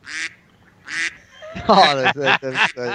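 Loud, nasal duck quacks: two separate calls at first, then a rapid burst of four or five quacks in quick succession, with no talking.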